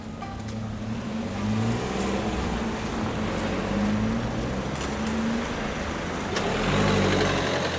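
Steady city traffic on a street in Strasbourg at 7:50 in the morning, before sunrise, with car headlights still lighting the street between the Letry bus stop and a hotel: car engines rumble and idle continuously, with vehicles passing and a low, constant roadway hum. No one speaks.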